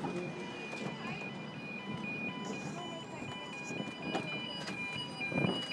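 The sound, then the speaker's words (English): A sustained, high-pitched metallic squeal from train wheels rounding a bend, holding a steady whine with small pitch shifts over continuous carriage rumble and faint background voices. “The flange noise as we go around the bends.”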